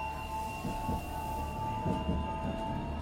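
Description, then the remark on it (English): A train travelling from West Ham to Barking rolls along the rails with a steady low rumble, a faint high-pitched whine, and paired rhythmic clacks of wheels over track joints, continuous with no voices. “And then from West Ham, I'll get the train to Barking.”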